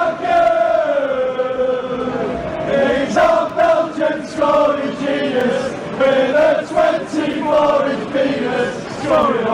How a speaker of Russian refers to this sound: Они реально любят футболиста, про которого они поют, и мне кажется, пусть поют. Прекрасная песня, давайте послушаем кусочек.